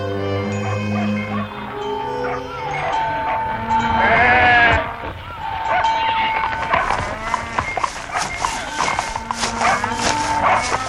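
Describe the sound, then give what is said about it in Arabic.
A flock of sheep bleats repeatedly, several wavering calls overlapping, with a louder burst of bleating near the middle and a busy background of animal noises throughout. “ثم بعث رسول الله إلى راعي غنم يطلب منه أن يزوده بشيء من اللبن.”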